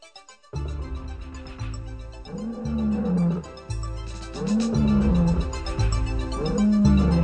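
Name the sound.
lions roaring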